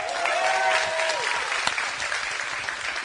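An audience claps steadily in a dense, sustained burst of applause, loud and close, with a brief faint tone or voice rising above the clapping near the start.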